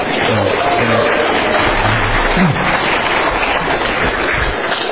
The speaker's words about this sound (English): I'd really like it if my wife was here to receive that applause. I feel it's her who deserves that and not me, really.